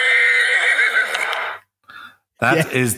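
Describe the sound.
A horse gives a loud whinny lasting over a second, then a brief second call after a short pause, followed by a person starting to talk.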